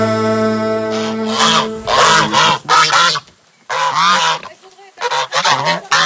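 Geese honk loudly and close by, a noisy flurry of harsh, overlapping calls in several bursts with a brief pause in the middle, no talking.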